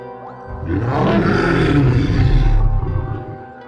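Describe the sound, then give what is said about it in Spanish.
A deep, thunderous, inhuman monster voice, called Rule Maker, roars from inside an office in a garage, speaking an inhuman language and sounding like chainsaws and crashing cars; it holds for about three seconds, loud and gravelly with a heavy rumbling low end, before tapering off into a brief growl. “Desde el interior de la oficina salió una estrepitosa y profunda voz que hablaba en un lenguaje inhumano.”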